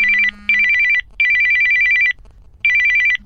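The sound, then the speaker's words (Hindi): A telephone ringtone rings in loud, bright bursts of rapid warbling tones for an incoming call from a friend, four rings separated by short pauses, clear with no talking. “MBA के last semester के बाद वो अपने घर चली गई और मैं अपने, पर एक दिन अचानक उसका फोन आया।”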